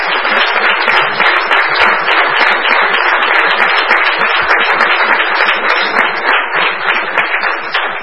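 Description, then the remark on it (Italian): Sustained audience applause at a Sondrio city council session for outgoing mayor Alcide Molteni: many hands clapping in a dense, steady wash that holds at an even, fairly loud level for the whole eight seconds, with no voices audible. “Permettetemi di salutare il sindaco uscente Alcide Molteni, al quale chiederei di fare un applauso.”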